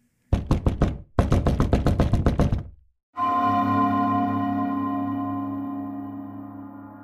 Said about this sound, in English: After my friend left my home, there was a knock at the door no more than 30 seconds later.